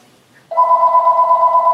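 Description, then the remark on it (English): A telephone rings with a steady electronic tone that starts abruptly after a brief quiet moment and continues loud, with no talking. “The phone.”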